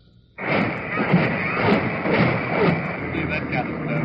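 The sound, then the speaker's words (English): Naval big guns of the UN armada, including the Missouri, pound the hills above a beach in Korea in a barrage, bursting in abruptly and holding as a loud, dense, continuous roar with repeated heavy thuds blurring together throughout. “As the Missouri pounded away at the hills above the beach, other big guns of the UN armada joined the barrage.”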